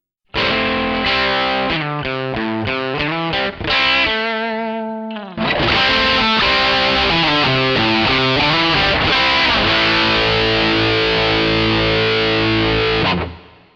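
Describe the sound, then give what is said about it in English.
Crunchy, distorted electric guitar riffs played loud through an overdrive effect in crunch mode, choppy chord stabs giving way to a brief sustained note, then a driving rhythmic riff that rings out at the end. “Crunch mode gives you a fat, crunchy sound that's tailor-made for riffs and backing parts.”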